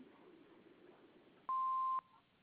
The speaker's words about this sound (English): Please leave your message after the beep, and we'll get back to you as soon as we can.